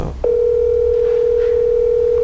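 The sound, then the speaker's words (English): A phone line rings on an outgoing call: a single steady electronic tone holds for about two seconds, loud and clear, with no voices over it. “So, but I'll try calling him with you. What's his number?”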